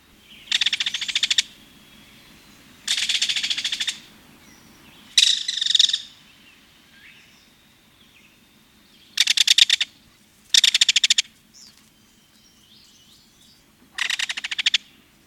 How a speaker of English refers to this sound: That was the rather loud rattle call of the belted kingfisher. He gives it to declare territory and chase off intruders.